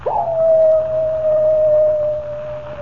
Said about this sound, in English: Does the howl of the coyote really spell death for Comanche Joe?